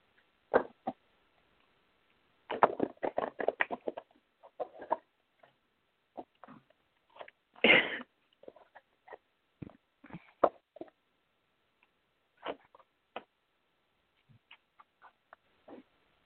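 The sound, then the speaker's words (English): Cards being shuffled a few times for a card reading: a quick burst of papery riffling, then a sharper flutter, with scattered soft snaps and taps between them. No one speaks. “I'm going to shuffle it a few times.”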